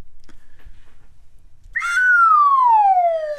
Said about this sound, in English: Which is an absolute downslide on the slide whistle. I mean, that's about as downslide as you can get.